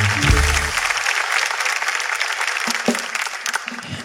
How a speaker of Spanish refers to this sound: ¡Oh, y un aplauso para el mago! Maestro.